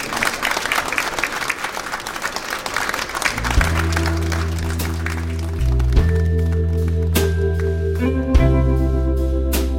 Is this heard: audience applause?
yes